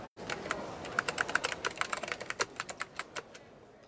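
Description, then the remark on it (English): Rapid, irregular clicking of keys on a computer keyboard as children learn to use a computer at school, fairly loud, with bursts of quick taps continuing for several seconds and no voices. “They are using a keyboard and looking at the screen.”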